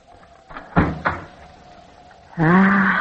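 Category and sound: household object, door opening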